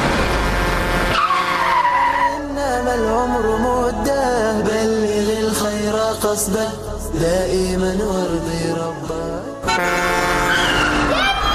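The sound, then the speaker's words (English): A heavy truck skids toward a pedestrian at a busy intersection with a loud, sustained tire screech that wavers and shifts in pitch over a low engine rumble, continuous for about eleven seconds. “A truck coming straight at him”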